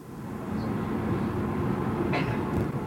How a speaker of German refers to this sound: Langsam ruckelt die Straßenbahn Nummer 2 über die Saalebrücke Richtung Halle Neustadt.